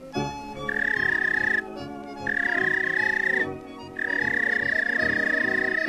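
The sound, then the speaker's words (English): Three long, steady, high whistle blasts, used to call a police dog, sound one after another with short gaps between, loud, over a busy, rumbling musical background. “Suppose you own a police dog. Here's the way it whistled to him.”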